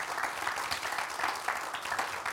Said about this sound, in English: Thank you to our sound guys. Give our sound guys a round of applause. Amen.